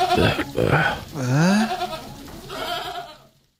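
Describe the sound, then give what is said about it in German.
A single goat bleats several times in a row, loud, with wavering, nasal cries that rise and fall. The longest call sits in the middle, and a softer bleat trails off at the end. “Aus dem mutmaßlich zweiten Fiebertraum erwacht, finden sich unsere vier Freunde nicht länger mehreren Ziegenherden gegenüber, sondern nur noch einer einzelnen Ziege.”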